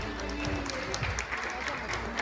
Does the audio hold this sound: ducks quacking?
no